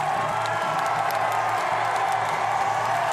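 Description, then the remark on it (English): A large crowd of demonstrators in Scotland cheers continuously as two men released by authorities emerge from a van. A dense roar of voices with occasional sharper whoops and claps rising out of it, loud and steady throughout. “Eventually, authorities released the two men, who emerged from the van to the cheers of the crowd.”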